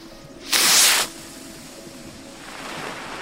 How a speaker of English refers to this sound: is about to light the fuse on a rocket. Yeah, well, we'll see now. He's been working towards this race all summer. Here we are. It's a loud old bang, so watch your ears there.